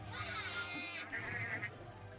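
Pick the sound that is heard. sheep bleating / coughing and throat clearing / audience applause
sheep bleating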